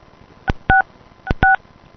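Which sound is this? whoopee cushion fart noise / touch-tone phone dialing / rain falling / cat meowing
touch-tone phone dialing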